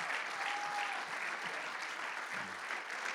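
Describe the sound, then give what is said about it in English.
A church audience breaks into sustained applause for their pastors and the pastors' wives, a dense, steady wash of many hands clapping at even loudness for the full stretch, with a brief faint tone sounding early on. “And give your pastors and their wives a hand clap of praise because they deserve it as well.”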